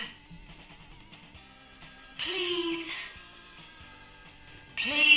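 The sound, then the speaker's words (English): A telephone bell rings in two loud, rattling bursts separated by a pause of about two seconds, the second cut off at the end, over a low steady background murmur. “Answer the damn phone.”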